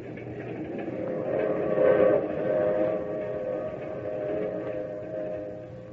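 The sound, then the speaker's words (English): A train rolls steadily along the rails, a continuous rumbling drone with a faint tonal hum riding on top, even in loudness throughout, with no voices. “Not till I'd gotten on the train with her and we were riding along did she tell me why.”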